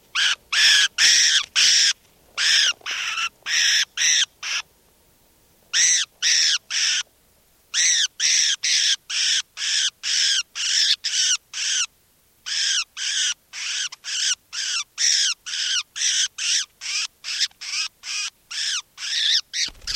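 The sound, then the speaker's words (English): Recording of bird number 455: a bird calls over and over in loud, harsh, raspy bursts, repeating several times a second in runs broken by brief pauses, with no other sounds. “Stop. This is bird 455.”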